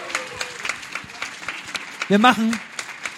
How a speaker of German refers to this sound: Meine Damen und Herren, ich möchte den Moderator der Verleihung nochmal auf die Bühne bitten. Unter donnernden Applaus,